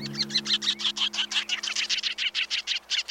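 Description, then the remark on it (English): Sanderling calls ring out in a quick, steady series of short, sharp chirps, roughly six or seven per second, clear over a faint low hum, with no talking. “And my number one sandpiper, the sanderling.”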